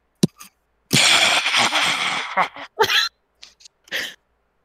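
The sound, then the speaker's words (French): A woman's loud, harsh coughing fit: one long raspy burst followed by several shorter, sharp coughs with brief pauses between them, no speech. “Une énorme toux en ce moment.”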